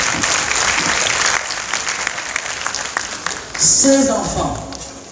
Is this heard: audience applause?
yes